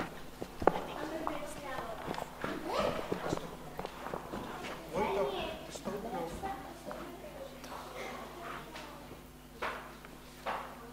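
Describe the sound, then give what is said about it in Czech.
A donkey's hooves clop at a steady walking pace on a hard floor as it walks into a stable, fairly loud, with voices murmuring in the background throughout. “Do chléva přichází oslík.”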